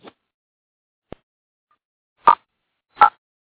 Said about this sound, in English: And give me one second. I'm just going to get a sip of water so my throat doesn't get too harsh while I'm talking to you. I'll be right back.